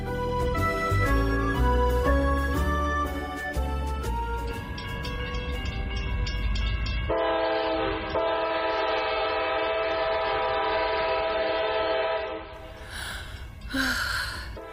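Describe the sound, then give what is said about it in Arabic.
A train rolls along the tracks with a rhythmic chugging, then a long sustained whistle sounds before a burst of hissing steam near the end; no one speaks. The railway runs through forests on both sides, near Giverny, France. “ما أجمل هذه الغابات التي تتهادى على طرفي سكة القطار.”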